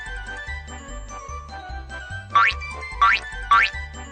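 Three bright, springy boing sound effects for a frog jumping rise sharply in pitch in quick succession, loud, over a bouncy low-pitched musical backing with no voices.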